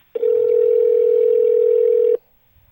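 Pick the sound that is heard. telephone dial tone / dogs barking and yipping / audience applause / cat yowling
telephone dial tone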